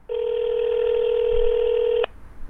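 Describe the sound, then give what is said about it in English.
A steady electronic telephone tone, as a telephone number is dialed, holds at one pitch for about two seconds, then cuts off abruptly with a click. No voices are heard. “I was down to the last number.”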